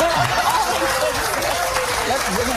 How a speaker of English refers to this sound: Who is clapping at that terrible idea?